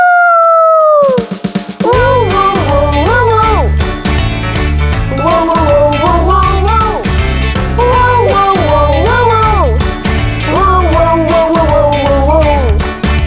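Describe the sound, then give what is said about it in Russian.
A wolf cub's howl glides downward at the start, loud, then bouncy music takes over with sliding, howl-like vocal phrases repeating over a steady beat. “Воу-воу-воу-воу-воу, вот так говорит волчонок. Ау!”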